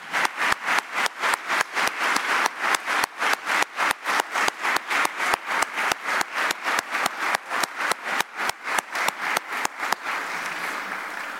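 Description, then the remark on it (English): An audience applauds the staff still employed at Trinity School for their work, in steady, loud unison, sharp claps landing about three per second, then breaks into looser scattered clapping that fades out near the end. No one speaks. “Now, I'd ask that all those become seated, except those still employed at Trinity today, who I think we should applaud for the wonderful work that they do in this place.”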